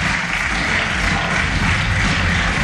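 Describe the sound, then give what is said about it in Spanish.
Sustained, dense applause in Les Corts parliament after the vote approving consideration of the Ley de Concordia. A steady hiss of clapping stays loud and even for the whole stretch, with shouts of "vergüenza" (shame) from PSPB and Compromís deputies mixed into the noise. “Aplausos, como escuchan, junto a los gritos de vergüenza, vergüenza por parte de los diputados de PSPB y Compromís.”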